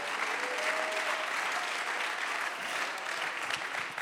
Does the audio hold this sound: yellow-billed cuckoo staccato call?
no